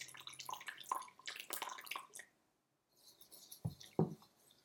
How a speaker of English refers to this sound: And this is what I would do if I were making a bowl of ceremonial grade matcha. And then what I'm going to do is add the rest of the water.